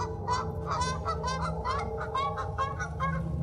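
Canada geese honk repeatedly in a rapid, overlapping series of nasal calls, about eight or nine in a few seconds, loud over a steady low rumble of background noise.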